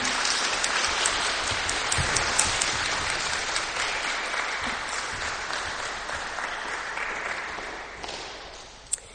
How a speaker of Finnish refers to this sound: Kiitos kirkkokiltalaisille. Nyt olisi melkein mun mielestä aplodien paikka.